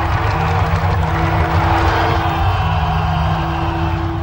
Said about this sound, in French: Cinquante ans après l'événement historique, le jour de la première, ce sont les applaudissements des spectateurs qui concluent la soirée.